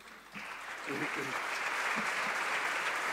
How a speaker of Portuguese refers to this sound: E nesta altura é o Partido Socialista, mas também o PSD, que se levantam para aplaudir o Presidente da República. Na referência que fez a Mário Soares.